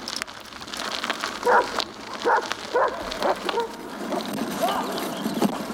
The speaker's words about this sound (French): On attaque donc l'étape du jour par une route forestière peu fréquentée. J'expérimente ma première course-poursuite avec une meute de chiens. On nous avait prévenu que les chiens en Turquie pouvaient poser problème.